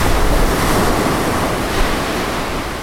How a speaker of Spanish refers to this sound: Marejada. Estado del mar cuando la superficie aparece perturbada con olas de gran tamaño y fuerza que pueden alcanzar los 4 metros de altura. Esas olas se alejan del lugar donde se originaron y se propagan rápidamente hasta la costa.